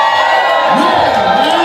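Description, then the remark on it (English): A crowd cheers and claps loudly in a steady wash of applause, with whoops and shouted voices rising and falling over the continuous noise. “I appreciate the hard claps.”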